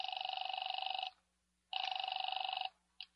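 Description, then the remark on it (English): An electronic telephone ring heard through a phone line as a number is called: two long trilling bursts with a pause between, then the start of a third cut short, clear with no voices. “The first number didn't answer. I tried the second.”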